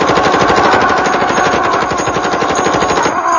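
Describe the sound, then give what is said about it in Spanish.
A loud, rapid stream of gunshots rattles continuously for several seconds in a fast, steady rhythm as a man shoots helium balloons while a film crew records, with no voices, before it cuts off abruptly at the end. “El hombre explota los globos a tiros mientras un equipo de cine lo graba.”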